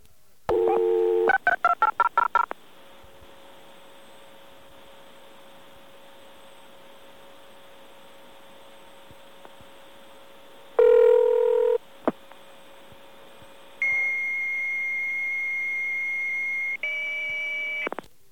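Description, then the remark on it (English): A quick burst of touch-tone dialing beeps for a local call within Stony Brook, to a place less than a mile away, then a hum on the line and a short ring, then a modem answers with a steady high-pitched tone that shifts near the end. “Now, just to demonstrate it one more time, let's call from Stony Brook to Stony Brook one more time. To something that picks up, say a modem, okay?”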